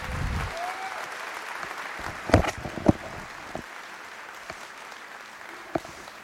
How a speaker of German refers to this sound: Bitte eine Runde Applaus